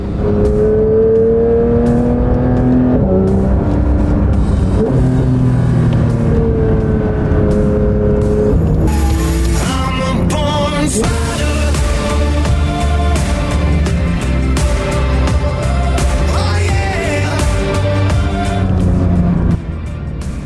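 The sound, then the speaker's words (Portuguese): A powerful supercar engine revs and accelerates hard uphill on a race track, in track mode with all driving aids switched off, its loud growling tone climbing in pitch through several gears, with bursts of roaring and brief drops between shifts, no voices. “Vamos lá, agora como a gente está numa subida, eu vou colocar essa função track.”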